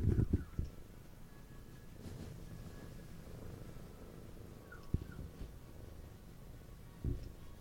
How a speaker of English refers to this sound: We're just gonna listen to Patty purring.